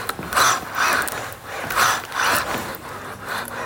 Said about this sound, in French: Voilà, et avec ce petit bruit presque quasi traditionnel, hein, ce petit bruit de moteur qui nous accompagne à ce moment-là.